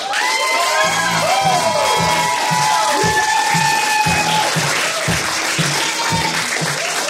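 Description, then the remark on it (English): A poetry-night audience claps and cheers loudly and continuously for an 11-year-old poet coming to the stage, with scattered whoops and high shouts rising over dense, steady applause for several seconds. “Next poet coming to the stage in 2 weeks is gonna be my stepson, and he's 11 years old, and so you have to cheer very, very loud for him right now.”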